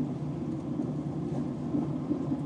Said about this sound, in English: And now we're on our way home. We're on the train now, as you probably can hear.